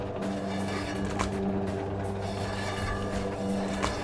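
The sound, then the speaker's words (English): A meat slicer hums steadily with a low mechanical drone, while two brief scraping swipes mark slices being cut about two and a half seconds apart. No one speaks. “Still on this meat slicing job.”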